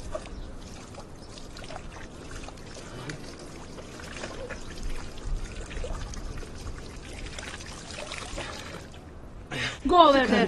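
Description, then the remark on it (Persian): A very thirsty animal laps up water, a steady run of wet slurping and trickling that swells into a louder splashing burst near the end, with faint voices in the background. “میچاره خیلی تشنه است. بذار حسابی آب بخوره.”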